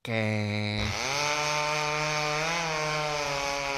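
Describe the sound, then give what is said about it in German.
A forest worker's chainsaw in the woods drones loudly on its own, idling briefly before revving up to a higher, steady buzzing whine that holds for several seconds. “Nein, den Waldarbeiter meinte ich jetzt nicht.”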